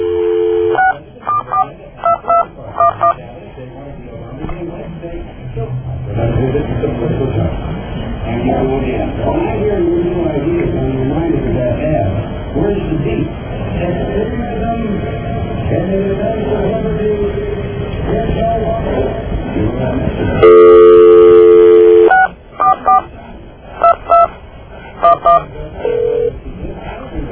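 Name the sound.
telephone number being dialed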